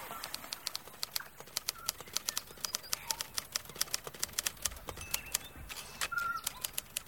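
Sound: birds calling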